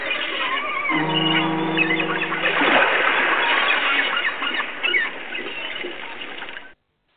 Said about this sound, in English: That was a big boat in the sea, wherever that sea was. Huh. I believe that was what that horn.